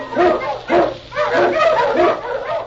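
A husky sled dog barks and yips repeatedly in an excited, rapid series, loud, with no talking.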